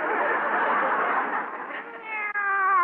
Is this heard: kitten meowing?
yes